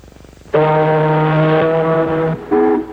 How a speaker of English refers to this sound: Now an ocean liner.